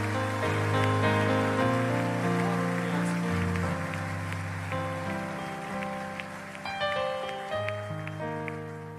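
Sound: audience applause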